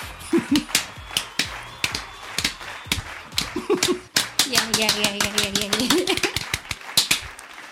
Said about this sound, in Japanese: はい、揃わない終わらない拍手っていうね、うん、あのイベント会場でよく見る